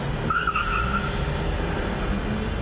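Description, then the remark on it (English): Busy car traffic on the Damascus Road in Beirut, Lebanon, heading towards Baalbek, rumbles steadily throughout, a dense wash of engine noise with a brief high tire squeal near the start. No one speaks. “This day, they all seem to be taking the Damascus Road towards Baalbek.”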